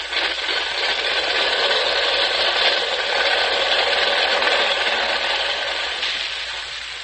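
An engine, just started with a starter button, runs steadily without a break, a loud, even mechanical drone with a faint rattle and a thin whine, alone with no voices.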